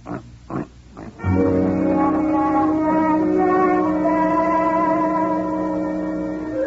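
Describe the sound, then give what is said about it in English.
A pig, called Mr. Yun, gives three quick, snorting grunts, then lets out a long, loud, drawn-out squealing cry that rings with heavy echo until the end. “Yun's husband happens to be a pig.”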